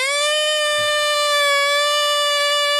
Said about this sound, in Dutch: onderzoeken of ze eventueel het geluid van de elektrische motor kunnen versterken